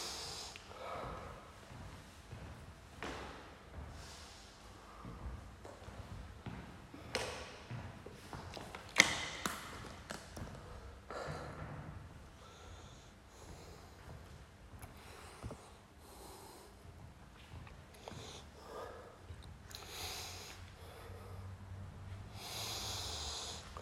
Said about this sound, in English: Stabilize that breathing.